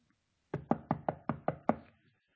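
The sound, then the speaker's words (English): Seven quick, evenly spaced knocks on a wooden door, firm, each with a short hollow ring, followed by silence. No voices are heard. “who in the world's at the house this time of night? Rhoda, go check the door.”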